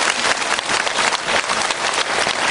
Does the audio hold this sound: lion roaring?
no